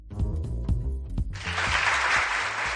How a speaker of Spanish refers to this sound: Y este aplauso porque la Junta de Castilla y León celebra hoy el acto con el que se está conmemorando el Día del Recuerdo y del Homenaje a las Víctimas del Terrorismo en Castilla y León, en el que se están entregando 23 medallas